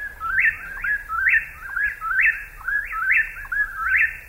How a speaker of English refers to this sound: Three whippoorwills that we can hear right now. There are two that are right in front of us and then one really far away on the hillside.